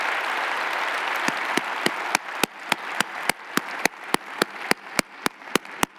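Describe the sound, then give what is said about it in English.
An audience applauds, a loose wash of clapping that soon settles into loud, steady clapping in unison, keeping a brisk even beat. No one speaks. “Clap yourself over to the grocery store after the service, all right?”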